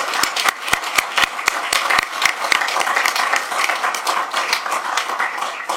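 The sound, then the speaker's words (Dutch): Council members applaud three young guests at a council meeting, many hands clapping at once in a dense, steady patter with sharp individual claps standing out early, then settling into an even wash of applause. “En het is misschien niet gewoon, maar ik wil toch vragen voor deze drie kanjers, die mogelijk toekomstige raadsleden kunnen worden, om een toch nog een keer een groot applaus aan deze drie kanjers te geven.”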